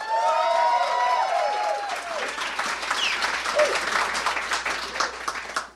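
A crowd applauds to vote for the contest entry Rin Tin Tin: steady, dense clapping with a few whoops and cheers rising over it, loud throughout and fading slightly toward the end.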